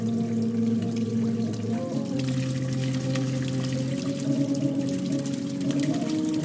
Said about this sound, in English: And what that does is that forces the water back inside the instrument into the sounding mechanism, the sounding chamber, and then it resonates.